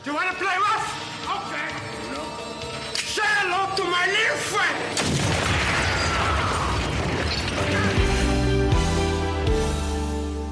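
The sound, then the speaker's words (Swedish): A rapid, sustained rattle of machine gun fire from a drug lord standing with his machine gun erupts midway, dense and harsh, after a stretch of raised voices over music, then gives way to a steady, low musical swell. “Nej, han skriker någonting så här, när han står där med sitt maskingevär och bara ratatatatat eller...”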